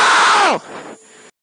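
Formula 1 driver Leclerc lets out a single loud, anguished scream over team radio that starts high and drops sharply in pitch over half a second, then fades into a quieter, crackly radio hiss.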